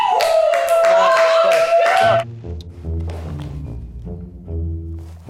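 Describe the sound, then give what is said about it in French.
A burst of loud, dense audience clapping lasts about two seconds, with a sustained cheer-like tone over it, then stops abruptly as a person starts speaking. “Pas besoin de me faire applaudir autant.”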